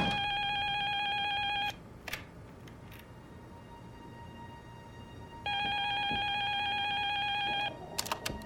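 A telephone rings twice, each ring a steady, bright electronic trill lasting about two seconds, separated by a quiet pause, before an answering machine picks up. No voices are heard, only faint room noise between rings.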